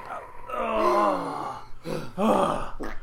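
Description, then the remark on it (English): A loud mouth fart blown through the lips, imitating a fart: a long wavering, buzzy blast sliding down in pitch, followed by two shorter sputtering bursts, with no talking. “That was a mouth fart just for you.”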